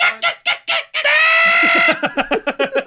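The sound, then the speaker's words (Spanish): A turkey in a tree gobbles loudly: a few squawky notes and a drawn-out cry, then a fast, bubbling rattle of repeated pulses. No one speaks. “Sí, güey, ahí es al pinche guajolote así en un árbol.”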